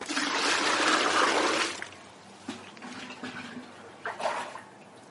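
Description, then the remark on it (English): Water gushes loudly from a tap into a watering can, filled to water mushroom gardens, for about a second and a half. Then it stops, leaving faint splashes, drips and small clanks against quiet background noise. “So I fill the watering can.”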